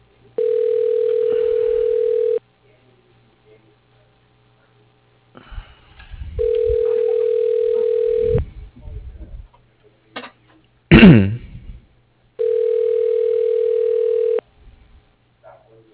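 A telephone ringback tone sounds three times as a call is transferred to extension 107. Each ring is a steady two-second electronic buzz followed by a pause, with soft clicks and a brief rising chirp between the rings.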